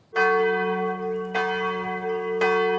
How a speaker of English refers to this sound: The church bells in the village of Limmen have been ringing on Sundays since the 13th century.